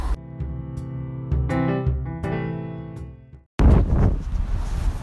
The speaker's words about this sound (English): Tell you what, potties, it is grey and miz, and it is raining, and it is incredibly windy, but it's really nice to get out, even so, just to stomp around a bit